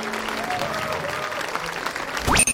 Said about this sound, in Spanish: Al estirar el brazo, unas piedras moradas emergen de su cuerpo y flotan en el aire. El público aplaude entusiasmado.